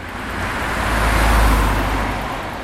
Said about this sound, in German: So hört sich das an, wenn man morgens um 8:30 an der roten Ampel an der Neckarbrücke steht. Aus allen Richtungen schießen Fahrradfahrer hervor.